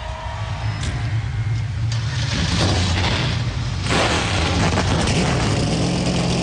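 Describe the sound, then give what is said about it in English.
A dense roar of a field of 38 race car engines firing up together at the start of the Kansas Lottery 300, loud, with low rumbling idles and rising revs swelling into a sustained, layered engine drone. “A field of 38 roars to life.”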